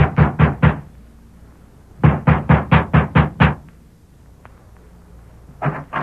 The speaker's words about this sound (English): Our story continues several weeks later. Sheriff Ramsey has just dismounted before the ranch house of Alva Carlson and is knocking at the door.